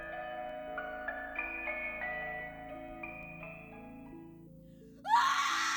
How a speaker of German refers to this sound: Der Schrei gellte durch die Dunkelheit. Laut, schrill und voller Verzweiflung. Was ist los?